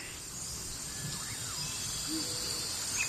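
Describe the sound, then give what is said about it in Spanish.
African jungle ambience: a steady high hiss of insects and cicadas fills the background while scattered bird calls and chirps rise and fall over it, with no voices present. “Con este sonido de selva africana, vamos a hablar ahora de la curiosa leyenda del dragón del patriarca.”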